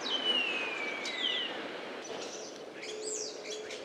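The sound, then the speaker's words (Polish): A starling gives its signature intro whistle, a long, clear whistle that slides downward in pitch, followed by several shorter, higher whistles and chirps over a steady background hiss. “Dżingiel Polskiego Radia Rzeszów na pewno wszyscy dobrze znają, a u szpaków jest to gwizd w górę albo gwizd w dół.”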